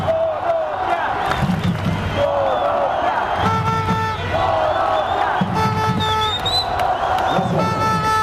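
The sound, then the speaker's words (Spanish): A large crowd of Colombian tennis fans at the Plaza Santa María chants a repeated rhythmic cheer of "Corazón, Colombia, Corazón" during a Davis Cup tie between Colombia and Croatia, loud and steady, with shouts and whoops rising over the chorus throughout. “Poco a poco la Plaza Santa María se fue llenando y con el grito Corazón, Colombia, Corazón, la fanaticada hizo sentir su localía.”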